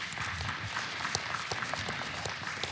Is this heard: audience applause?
yes